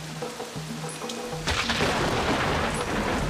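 A low, steady humming drone gives way halfway through to a loud, dense hiss of heavy rain pouring down, with a faint rumble underneath; no voices.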